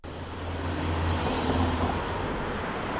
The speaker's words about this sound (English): Cars are speeding by on a busy street in Madison.